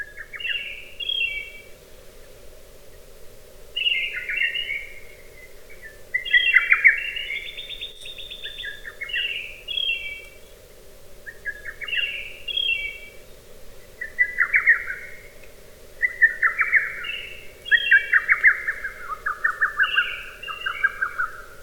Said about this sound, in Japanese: 全国各地で今でもホトトギスの鳴き声を聞くことができます。万葉の歌人が体験した日本の自然の豊かさを鳥の鳴き声から知ることができます。